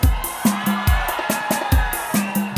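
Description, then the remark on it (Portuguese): A concert crowd shouts and roars loudly at the singer's call for a strong shout, over pounding music with a steady, heavy bass beat thumping roughly twice per second beneath the dense wall of voices. “Eu quero ouvir agora o grito bem forte.”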